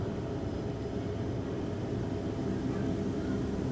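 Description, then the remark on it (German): A faint, steady low drone from a wind harp at the university, built by Dr. Dieter Trühstädter, played by the wind and heard via its live internet stream, with little wind blowing; soft sustained tones hum underneath a constant rumble with no clear rise or fall. No one speaks. “Und die Windharfe kann man als Internetstream permanent hören.”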